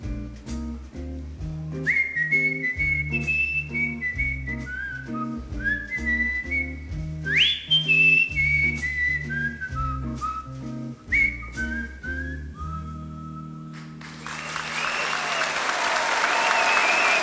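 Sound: crowd cheering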